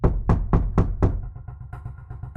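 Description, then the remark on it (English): Five heavy, booming knocks pound on a door at about 8:30 p.m. in quick, steady succession, loud, followed by a quieter low rhythmic thudding with no voices. “And then all of a sudden, there's a pounding at the door.”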